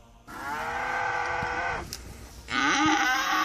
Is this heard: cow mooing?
yes